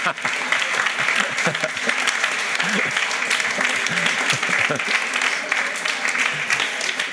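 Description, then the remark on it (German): Sustained, dense applause from an audience welcoming a surprise guest, steady and fairly loud throughout, with a few voices and cheers faintly mixed into the clapping. “Heutiger Überraschungsgast begrüßt Sie mit einem herzlichen Applaus.”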